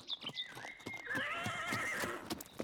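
A horse pulling a wagon lets out a long, wavering whinny while hooves clop in a steady rhythm beneath it, the sound fairly clear with no voices.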